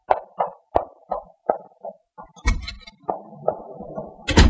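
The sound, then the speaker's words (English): A quick run of sharp footsteps as Blaine goes out, then a door opens with a heavy thud and rattle, followed by a few more steps and a final solid slam as it shuts. “That's Blaine, just going out the door.”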